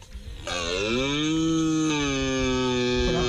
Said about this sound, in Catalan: El que heu sentit no és una serra mecànica, tampoc és …, ni cap candidat a entrar a Operació Triunfo. Pensava que era un porc. És un cérvol lligant.